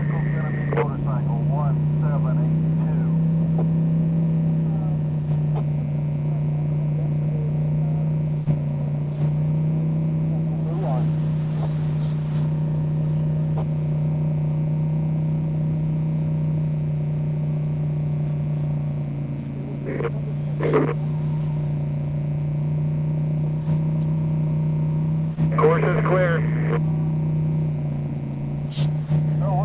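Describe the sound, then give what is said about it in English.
BMR Racing car 1285, driven by Alan Fogadini, with a six-cylinder GMC dump truck engine, turbo removed, running unblown fuel, drones steadily and loudly for the whole stretch, a deep constant rumble with a few brief, sharper bursts of noise rising over it. “Six-cylinder GMC dump truck engine.”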